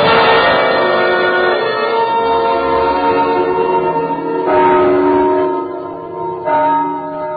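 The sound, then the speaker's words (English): Church bells ring loudly and steadily for people who have died, their rich overlapping tones sustaining throughout, with fresh strikes swelling the peal twice near the end. No voices are heard. “Mama, the bells are ringing again.”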